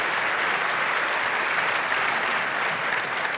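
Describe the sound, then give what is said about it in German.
Steady, dense applause from an audience after a talk, many hands clapping at once in a continuous loud wash with no pauses, and no one speaking over it. “Eine Runde Applaus bitte nochmal.”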